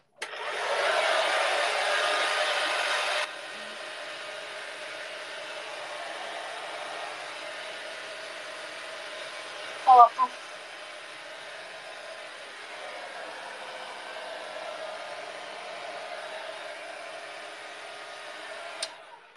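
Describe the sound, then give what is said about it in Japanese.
A hair dryer on its air-blow setting blows steadily, loud at first for a few seconds, then dropping to a lower, quieter setting that continues with a brief clack partway through. “ドライヤーのさ、送風みたいなさ、やつでさ、よいしょ。”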